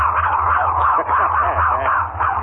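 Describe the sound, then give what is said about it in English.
A small dog whines continuously for a couple of seconds, a high, wavering, nasal whimper that rises and falls in pitch, fairly loud over a low background hum. “You really mean that? By golly, you're something smart little dog.”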